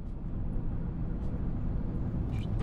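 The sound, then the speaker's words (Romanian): A truck engine, just started with the key in the ignition, runs with a steady, low rumbling drone, constant for the whole stretch, with no voices over it. “Cheia în contact, motorul a pornit, să mergem.”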